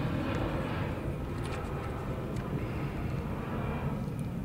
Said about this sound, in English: So on cue, I'll let that plane go by.